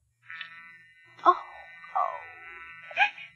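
A phone left off the hook in a store: a steady, high electronic hum runs throughout, broken by four harsh, squawking bursts that recur roughly every second. No one speaks over it.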